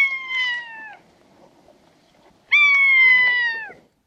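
Two loud, drawn-out mewing calls from a common buzzard, each nasal and slightly harsh, holding a steady pitch before sliding down at the end, separated by a pause of about a second and a half.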